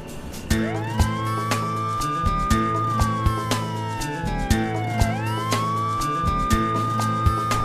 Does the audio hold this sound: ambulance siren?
yes